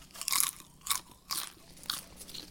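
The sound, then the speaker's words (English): Crunchy stove-popped popcorn being chewed, with four sharp, crackly bites spaced roughly half a second apart, bright and brittle, and no talking. “Good popcorn.”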